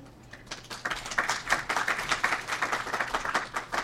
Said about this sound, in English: Thank you. Should know better, hold off the applause till I say something you think is important.